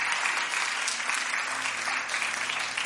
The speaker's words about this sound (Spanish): Así que, ¿qué tal si empezamos dándole un aplauso? Why don't we praise God as we begin?